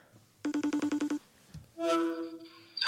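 A phone call's ringing tone, as an outgoing call is placed, pulses in a quick burst of about eight short beeps, followed by a brief sustained electronic tone, clear with no talking.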